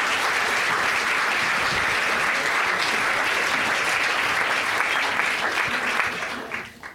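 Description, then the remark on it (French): A conference audience applauds a participant steadily, a dense wash of many hands clapping at an even loudness for about six seconds before it thins out and fades at the end. “On peut l'applaudir.”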